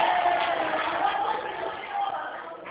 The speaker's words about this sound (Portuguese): Tá tendo um treinamento aqui na agência, isso aqui tá uma bagunça. Tá Bagunça. ouvindo os gritos? Tô É. Tem o gerente geral do Santander aqui, então tá uma loucura aqui.